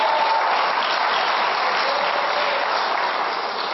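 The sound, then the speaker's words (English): A crowd applauds steadily and loudly for several seconds in praise of Jesus, a dense, even wash of clapping with faint mingled voices underneath and no single speaker. “Let me hear your amen like thunder. Give Jesus praise tonight.”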